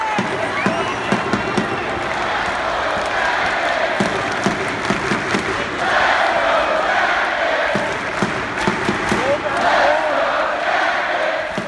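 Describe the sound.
An arena crowd of about 1,953 fans cheering at a CBJ hockey game, a steady dense roar of many voices dotted with sharp claps and thuds, swelling louder around the middle and again toward the end.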